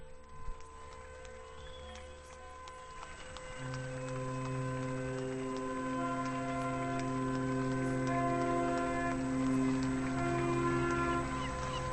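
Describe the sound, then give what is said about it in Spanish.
Car horns honk in the streets of A Coruña in long, overlapping blasts of steady pitch, starting after a few seconds of rougher street noise and staying loud and continuous until the end. “Bocinazos a tope en A Coruña.”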